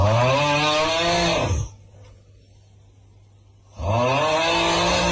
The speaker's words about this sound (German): Für X17 gibt's das wilde Schnarchen.